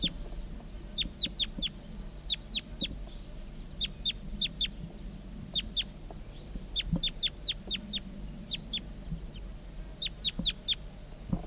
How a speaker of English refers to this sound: Recording wild bird.